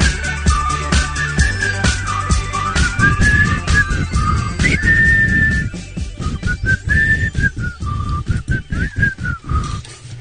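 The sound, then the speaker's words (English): Someone whistles a wandering melody, clear and fairly loud, gliding between notes over about ten seconds against a busy, rumbling background. “I wish I could whistle.”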